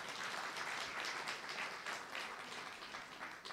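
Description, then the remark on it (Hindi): Steady applause from an audience, a dense wash of many hands clapping at once with a bright, crackling texture that holds at an even level throughout, with no voices. “ताली तो बजाओ भाई जरा।”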